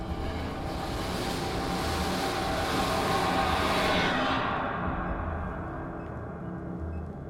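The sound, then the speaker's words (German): A train approaches and roars past within a hair's breadth in an unlit space, a loud rumbling rush that swells to a peak midway and then fades slightly as the high, hissing edge drops away. No one speaks. “Ein Zug näherte sich und fegte haarscharf an mir vorbei.”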